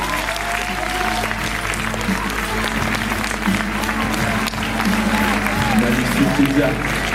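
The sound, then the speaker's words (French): A large audience at a 2024 Miss Provence-Alpes-Côte d'Azur pageant event applauds the regional delegate steadily for several seconds, dense continuous clapping with a low hum of crowd noise beneath, loud and sustained without pause. “La déléguée régionale de Miss Provence-Alpes-Côte d'Azur, merci d'applaudir”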